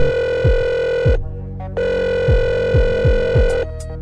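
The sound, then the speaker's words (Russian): A new ringback melody set on the called person's phone plays down the line: a steady, buzzy sustained chord breaks off briefly midway, while deep bass notes swoop downward in a loose repeating rhythm. No one speaks. “Опять у него на гудке новая мелодия.”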